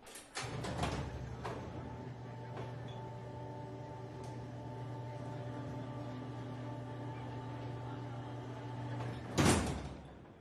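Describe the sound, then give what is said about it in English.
Heavy blast doors covering the plate glass windows of a diner grind shut after a red button is pressed: a few metallic clunks, then a steady mechanical hum of the doors sliding for several seconds, ending in a loud, booming slam. No voices. “And deploy the doors, if you would. It's that red button right there.”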